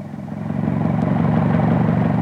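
An old Model T car engine chugs and rattles steadily, growing a little louder as it drives into the yard, with a clattering mechanical texture and no voices.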